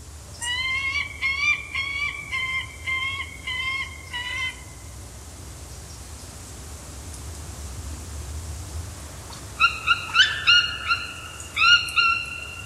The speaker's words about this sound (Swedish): Det kanske är själva urhavsörn, ja.